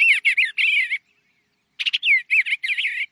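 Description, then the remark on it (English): An Eastern Bluebird sings soft, warbling phrases in two bursts separated by a brief pause, each made of short, rising and falling notes, clear with no voices. “Like this sweet singing Eastern Bluebird.”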